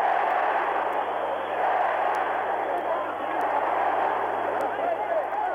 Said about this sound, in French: Ce sont bien sûr les cariocas en pleine euphorie que vous entendez actuellement.